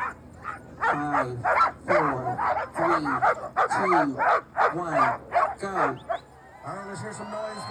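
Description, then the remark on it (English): Sled dogs of musher Mackey's Iditarod team, including a 3-year-old named Flash, bark and yip excitedly in a rapid, overlapping chorus before the race start, loud, with sharp high yelps throughout and a few whining cries near the end. “He's a team dog that has never done this before.”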